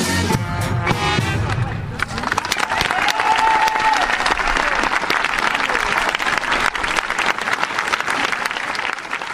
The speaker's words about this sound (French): Applaudissements nourris hier après-midi sur la place de la mairie de Parthenay.